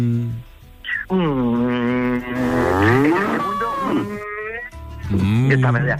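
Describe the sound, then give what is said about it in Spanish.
A person does a drawn-out, wavering moo impression, a long low lowing call that rises and bends, followed by a shorter second moo, loud. “Yo me quedé, vamos, aquello era una vaca.”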